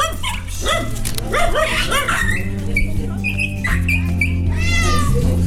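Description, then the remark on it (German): At an animal blessing at St. Hedwig church in Stuttgart-Möhringen, Germany, a cat meows repeatedly while dogs yip and bark, all layered over a steady, droning musical background that persists throughout. “Und dort waren dabei eine Katze, zwei Kaninchen, vier Hunde und sogar ein Esel.”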